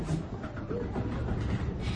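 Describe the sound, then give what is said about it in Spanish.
The Parla tram rumbles steadily along its rails, a continuous low clattering roll at moderate loudness with a faint metallic rattle over the top, and nobody speaking. “Hasta que el tranvía...”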